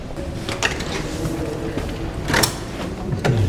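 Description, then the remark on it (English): A big, heavy-duty wooden door to the Haldane suite, the former office of the Secretary of State for War, swings open with a low rumble, a few scraping creaks and a louder thud midway, then a final knock as it settles. “Got big, heavy-duty wooden doors.”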